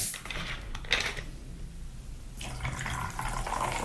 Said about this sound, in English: So I've literally put this into a long glass. No fanciness. I'm going to add some ice now. And then all I'm going to do is I'm going to top it up with a little bit of sparkling water.